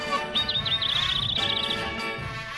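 A bird named Mika chirps and calls in a rapid, warbling trill of high notes, fairly loud, running for over a second before fading, with a soft background hiss and no talking.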